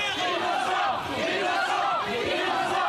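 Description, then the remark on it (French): A large crowd outside the courthouse shouts together in a loud, continuous chant of the word "innocent" after a guilty verdict in 1994, rising and falling voices sustained for the whole stretch with no pauses and no single speaker standing out. “À l'extérieur, la foule n'a qu'un mot, innocent.”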